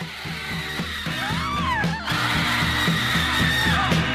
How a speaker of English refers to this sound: And it's also just this great song because it ends with maybe one of the, like, longest unbroken stretches of screaming ever to be in a 3-minute pop song.